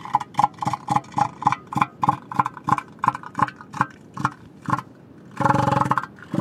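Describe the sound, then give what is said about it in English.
A male elephant seal gives a loud call of rapid, evenly spaced throbbing pulses, about four per second, that ends in a longer, harsher blast before a final few pulses. “They have a big snout and a very distinctive voice.”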